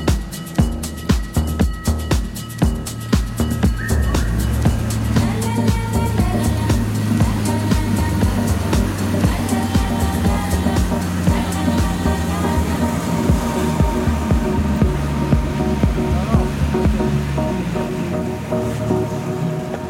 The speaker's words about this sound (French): À peu près une heure de navigation sur le Zodiac, on est arrivé sous le pont où on va faire cette série de prélèvements.